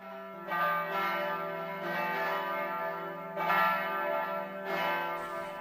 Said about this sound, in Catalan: Sonen les campanes. Voltegen el seu campanar, el nostre campanar